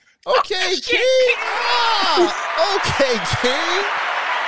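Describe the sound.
Loud, steady applause from an audience in the building for the show This Might Not Go Well, starting abruptly and continuing, mixed with excited whoops, yells and cheering voices rising over the clapping.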